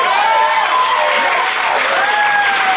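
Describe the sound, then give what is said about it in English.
A crowd applauds steadily and fairly loudly for a few seconds, the dense clapping running without a break, with faint whistle-like cheering tones rising above it. “I thought that should have gotten way more applause than it did.”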